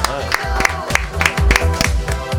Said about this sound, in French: Serge, sous vos applaudissements.